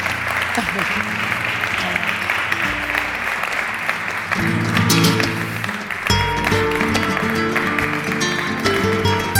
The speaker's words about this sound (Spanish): Un fuerte aplauso para ellos y para el ganador.